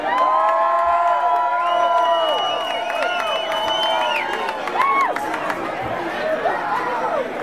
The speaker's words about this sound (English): Seriously, give him a hand this time.